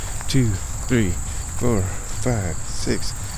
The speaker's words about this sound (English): Oh my god, I'm starting to hate cicadas.